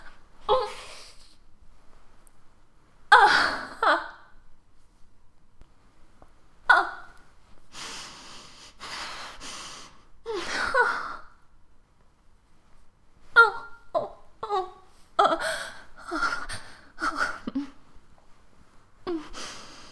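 A series of stifled, muffled coughs behind a covered mouth and sharp breathy gasps, fairly loud, coming in irregular bursts with a quick cluster of short stifled coughs toward the end.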